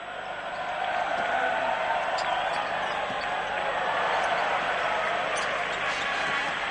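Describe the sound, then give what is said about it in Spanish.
A basketball arena crowd at a Lakers game applauds a paper airplane being thrown, a dense, steady wash of clapping and crowd noise that swells in the first second and holds loud and even throughout. “La gente aplaude el lanzamiento de un avión de papel y Jordi Villacampa responde con esa canasta.”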